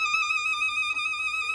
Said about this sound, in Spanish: Tienes este efecto como de trino de pájaros.